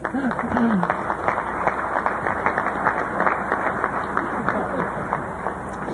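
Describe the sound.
An audience applauds steadily for several seconds, a dense patter of many hands clapping at once, fairly loud, with a brief voice or cheer rising near the start.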